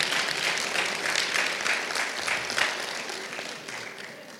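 An audience applauds steadily, a dense wash of many hands clapping at a fairly constant level before easing off slightly at the end, with no one talking over it.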